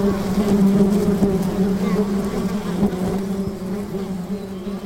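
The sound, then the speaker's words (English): A dense, steady drone of a hanging swarm of bees clinging onto each other, a temporary cluster formed while moving to a new nest, a continuous low hum with shifting overtones and occasional individual wingbeats flickering through. “As you get closer, you can see the bees clinging onto each other in a hanging, writhing swarm.”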